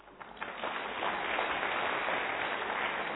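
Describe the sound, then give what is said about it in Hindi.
An audience breaks into applause, the clapping quickly swelling into a dense, steady wash of many hands that holds at an even, fairly loud level with no voices. “पहले ताली बजाए, लेकिन करना क्या है?”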